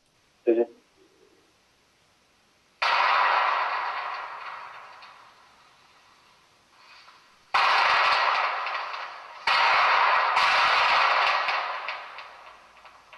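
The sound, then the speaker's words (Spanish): A lone gunshot cracks and echoes away, then after a pause comes sustained rapid gunfire in loud, dense bursts, with a brief gap between volleys; two separate recordings joined together. “En esta grabación yo no he esperado esos 2 minutos, evidentemente, sino he juntado rápidamente la primera, que es el disparo aislado, y luego la segunda, que es el repiqueteo este de disparos.”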